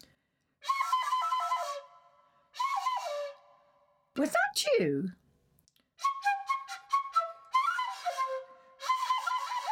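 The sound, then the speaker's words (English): Birds sing in trees in bright, warbling bursts of chirps and trills, several phrases separated by short pauses, with a single spoken question breaking in midway before the rapid chirping resumes. “Oh, yes, of course. It's birds singing in the tree.”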